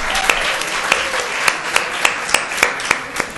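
An audience applauds steadily, a dense wash of many hands with a few sharper claps standing out at a regular rhythm, sustained and moderately loud with no voices over it.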